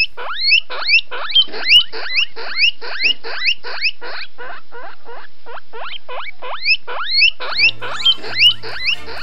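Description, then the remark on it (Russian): Wild guinea pigs, grey with smooth fur, make a rapid series of high, rising squeaks and whistles that repeat in quick rhythmic bursts, fairly loud, with a faint low hum joining near the end. “Только здешние морские свинки на моего друга не очень похожи.”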